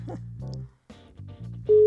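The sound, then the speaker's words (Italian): A quick run of telephone keypad tones, then a steady ringing tone begins at the end as a phone call is placed and starts to ring through. Clear, with no voices. “Squilla.”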